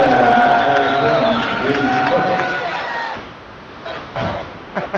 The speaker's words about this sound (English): And foul on Gant. And that brings the Oakland crowd alive.